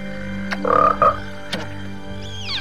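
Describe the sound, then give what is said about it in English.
A frog croaks in two short, throaty bursts, one right after the other, with a few soft clicks around them and a faint rising whistle at the end. The frog leaps to catch a dragonfly at night and lands next to Littlefoot. “A frog leaps to catch the dragonfly and wakes Littlefoot when it lands right next to him.”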